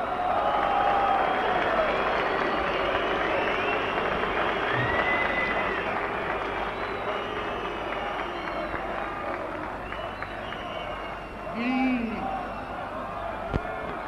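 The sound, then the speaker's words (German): A large crowd at a political speech in Berlin roars and shouts continuously, with scattered shrill whistles rising above the din, some sliding up or down in pitch, over about fourteen seconds. “Die einzelnen Pfiffe.”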